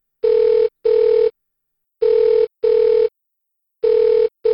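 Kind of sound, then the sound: signal or alarm, cell phone call ringing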